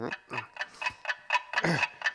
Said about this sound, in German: Guck mal. Das ist ja unser Wecker. Der macht das Geräusch.